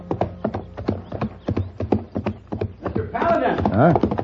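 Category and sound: animal, horse hooves clip-clopping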